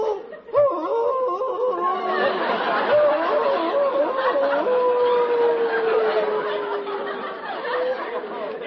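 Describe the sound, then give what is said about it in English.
A man on his knees on a rock imitates a wolf, calling to Gitche Gumee of an Indian legend. He gives a long, drawn-out howl that wavers and then slides slowly downward in pitch, heard against a busy, noisy background of murmuring voices. “He's crazy, howling like a wolf.”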